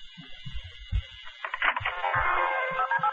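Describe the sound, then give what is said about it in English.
A tinny line on a newly plugged-in telephone for a joke line plays steady electronic dial tones with soft low thumps and clicks underneath, then a brighter, buzzy burst of line noise takes over partway through. “I wonder what the dial tone sounds like.”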